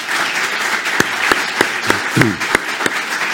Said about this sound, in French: On peut vous applaudir, Brigitte Barège.